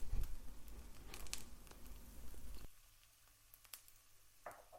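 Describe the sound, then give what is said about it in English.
An egg frying in a pan, a soft steady crackle and hiss that thins out halfway through, leaving scattered small pops and spits. Fairly quiet, with no one talking. “And so then we're just going to fry that for as long as we want to, really.”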